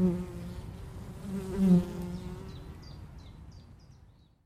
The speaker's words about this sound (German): Das sind ja ganz friedliche Bienen, ne? Mir ist nur eine ins Hosenbein geklettert. Aber die habe ich einfach rausgekickt.